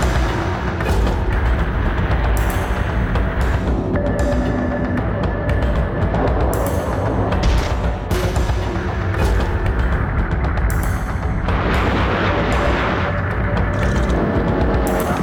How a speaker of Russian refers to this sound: Над Югославией мы попали под шквал немецкого зенитного огня.